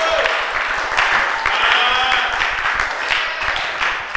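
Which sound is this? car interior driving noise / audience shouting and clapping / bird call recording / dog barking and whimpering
audience shouting and clapping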